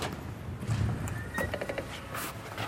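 A door opens with a short series of hard clunks and a brief thin squeak, over a low, steady background rumble. No one speaks.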